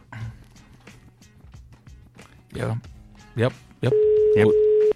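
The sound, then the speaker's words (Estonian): A steady, loud telephone ringback tone from a call to a mobile phone begins near the end and holds as one continuous beep for about a second, following a stretch of quiet talking and handling noises. “Nii, kutsub.”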